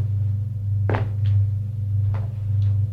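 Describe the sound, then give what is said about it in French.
An office door swings shut with a solid thud, followed by a few softer knocks and clicks of the latch, all over a steady low hum. “Ferme la porte.”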